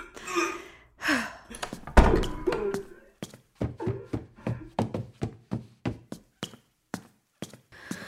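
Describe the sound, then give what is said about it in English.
Brief vocal sounds, then the door of a room with a toilet shuts with a single heavy thud, followed by a steady run of quick clunks and taps, like footsteps or handling noises. “I'm going to close the door and get some water and a towel for you, as I have a feeling you're gonna need that.”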